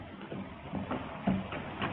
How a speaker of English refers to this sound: He steps through a gate to the porch. He knocks at the front door.